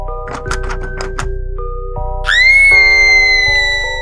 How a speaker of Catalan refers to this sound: Un xiscle es va sentir.